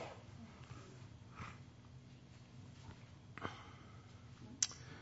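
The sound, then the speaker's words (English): A few short, quiet nasal sniffles, spaced a second or two apart over a low hum, with one sharper sniff near the end and no talking. “Please forgive me for my sniffles.”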